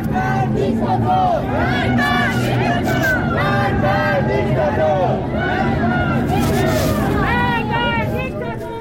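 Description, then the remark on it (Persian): A large protest crowd in Tehran, Iran, gathered around Azadi Square and Enghelab Street, chants anti-government slogans in unison despite military forces firing pellets and tear gas. Many voices rise and fall in repeated rhythmic phrases, loud and sustained over a dense roar of background noise. “در تهران تجمعات در اطراف میدان آزادی و خیابان انقلاب برپا شد و معترضان به رغم حضور نیروهای نظامی و شلیک گلوله‌های ساچمه‌ای و گاز اشک‌آور شعارهای علیه حکومت سر دادند.”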